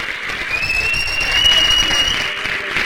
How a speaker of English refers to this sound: They applauded the healthcare workers and the first responders. They just all went out in the streets and in their balconies and clapped.